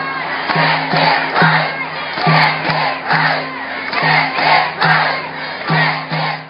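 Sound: rally crowd cheering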